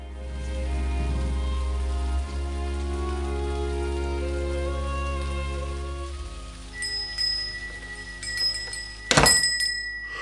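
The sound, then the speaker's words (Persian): Steady rain patters on a surface beneath a low, sustained drone, with scattered drips and a sharp, loud thunk near the end. No one speaks. “عجب بارونیه”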